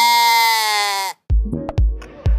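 A single loud sheep bleat, wavering, lasts about a second before cutting off, followed by a few dull, low thumps.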